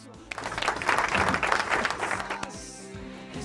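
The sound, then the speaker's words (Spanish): Audience applause breaks out, a dense burst of many hands clapping that holds steady for a couple of seconds and then thins out toward the end. “Emiliano Vilevich en los controles sonoros, aplausos por favor.”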